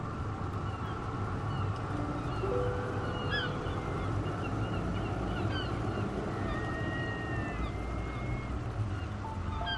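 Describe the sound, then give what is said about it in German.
Flightless birds call out with scattered honking and whistling cries over a dense, steady wash of background noise, like a busy colony. “hier gibt es ja Vögel, die nicht fliegen können.”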